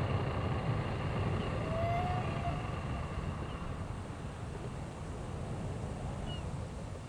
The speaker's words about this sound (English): After about an hour, the captain saw what we were looking for, turned the boat, and shortly after that, brought it to idle.